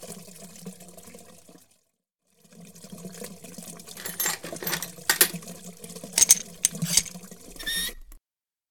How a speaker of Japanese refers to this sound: トイレが壊れました。 水が流れませんか？ いいえ、水が止まりません。